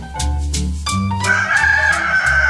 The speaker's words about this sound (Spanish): Una anciana observaba que, con precisión casi matemática, su gallo se ponía a cantar todos los días, justamente antes de salir el sol. Está claro, clarísimo. El gallo llama al sol y este acude a su llamado. Es el gallo el que hace amanecer.